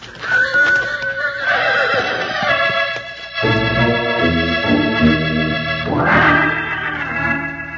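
A horse neighs and whinnies loudly, several shrill, wavering cries in succession with snorting breaths between them, and no talking.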